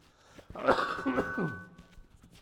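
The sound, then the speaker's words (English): A short burst of coughing, a few harsh, throaty coughs clustered together, with a rough throat-clearing quality and quiet room tone before and after. “I have to cough.”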